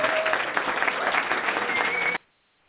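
A show audience in Jacksonville, Florida applauds loudly and steadily as a certified raw food chef guest is welcomed, a dense wash of clapping hands that holds at an even level for about two seconds, then cuts off abruptly into near silence.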